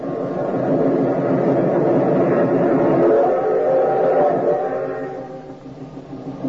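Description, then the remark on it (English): A train thunders past at a crossing, a loud continuous rumble with a steady tonal drone layered over it, then it fades off over the last couple of seconds. No one speaks. “We've got to beat the train or run smack into it.”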